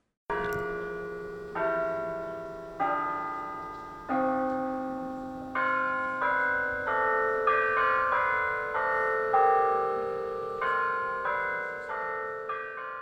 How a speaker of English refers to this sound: These bells have rung in the yard of St. Augustine Church in New Orleans for 165 years.